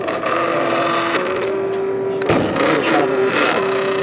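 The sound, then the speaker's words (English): A printer runs steadily while printing, its motors whirring with a continuous hum and a sustained whine that steps between pitches, broken once by a brief mechanical clunk partway through. “And it's printing out our, you can see our...”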